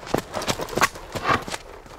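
Horse hooves clip-clop in a steady, brisk rhythm, each sharp knock distinct, about seven beats in two seconds with no voices over them.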